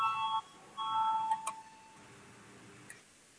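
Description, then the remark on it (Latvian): An electronic parliamentary voting bell chimes in two clear tonal bursts, each about half a second long, separated by a brief pause, rung before a vote, followed by faint clicks and quiet room noise. “Lūdzu zvanu, balsosim par 111. deputātu Kabanova priekšlikumu”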